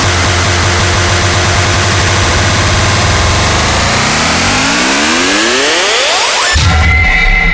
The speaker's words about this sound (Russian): Моторы.